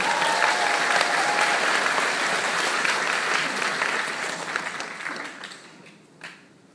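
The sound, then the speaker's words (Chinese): A crowd applauds steadily to welcome a store manager to speak, a dense wash of many hands clapping at full strength for several seconds before the applause thins out and fades, with a last few scattered claps at the end. “我们掌声欢迎他。”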